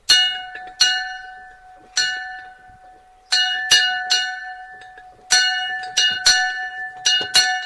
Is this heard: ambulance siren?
no